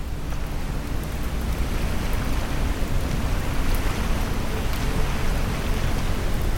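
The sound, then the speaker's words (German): A continuous, even rush of ocean waves, heard as a soft steady wash with no distinct swells or breaks, filling the background alone without any voices. “Mit den orangenen Sonnenstrahlen am Horizont, dem sanften Rauschen der Wellen als Hintergrundmusik, fühlst du dich eins mit diesem paradiesischen Ort, dankbar für die Ruhe und Geborgenheit, die er dir bietet.”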